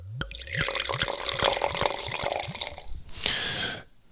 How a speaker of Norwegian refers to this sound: Så her må vi helle I glasset.